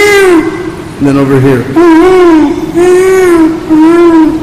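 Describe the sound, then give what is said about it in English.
A person briefly speaks, then imitates peacock calls with a series of loud, wavering, nasal wails, repeated several times in quick succession. “And immediately we'd hear the peacocks calling in the trees all around.”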